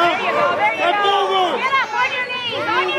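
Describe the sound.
A crowd at a youth wrestling tournament yells and cheers in a loud, steady wash of overlapping voices, with several rising, high-pitched shouts cutting through the constant chatter.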